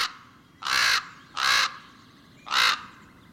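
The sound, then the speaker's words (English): Three loud, harsh common raven croaks, each about a third of a second long, spaced unevenly against a quiet, faintly noisy background with no talking. “The ravens live out their lives happily in the tower,”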